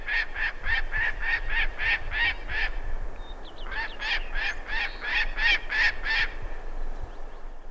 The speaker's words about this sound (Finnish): Ja seuraavaksi vuoroon pääsee viikon luontoääni Tunturi Haukka.